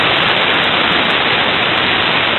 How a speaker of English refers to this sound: Nothing but noise. Pure white noise. So. And this cryptographically strong. 120 bits AES.